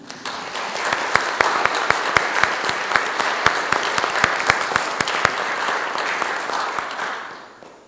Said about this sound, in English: I would invite applause for those who have completed their terms of service and clap loud enough they can hear us on the live stream too.